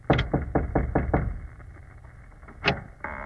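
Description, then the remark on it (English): A quick run of about six firm knocks on a door, evenly spaced, followed after a short pause by one more single knock. “Well, here's the door. Knock.”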